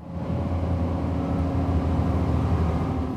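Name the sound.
bus driving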